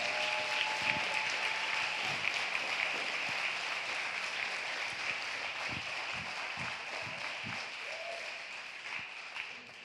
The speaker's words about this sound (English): Have any of you ever had the Lord do anything for you? Clap your hands if you got at least one thing the Lord has done for you.